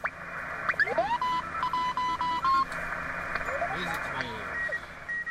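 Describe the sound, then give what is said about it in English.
A radio receiver hisses with band-limited static while a steady high Morse code beep keys on and off in short bursts, joined by sweeping whistles and warbling interference from other signals. “Morse code was dropped for military and commercial use in the 90s, but when there's a lot of interference or when too many operators are trying to use the same frequency, Morse code is easier to isolate.”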